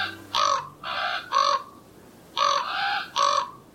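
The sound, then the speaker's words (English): Raven calls: six loud, harsh, hoarse caws delivered in two groups of three, with a short pause between the groups and no voices. “Ravens play with each other using rocks, sticks, pine cones, even the odd golf ball.”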